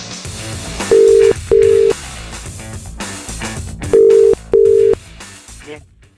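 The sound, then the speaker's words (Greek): A telephone ringback tone purrs twice in a double-ring pattern, two short steady tones, a pause, then two more, heard over a busy music-like background bed, on a call placed from Thessaloniki. “Από Θεσσαλονίκη παίρνω τηλέφωνο.”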